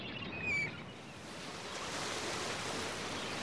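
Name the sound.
waves on a beach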